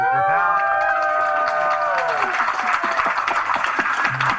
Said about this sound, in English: Give a big round of applause to our new leader guy.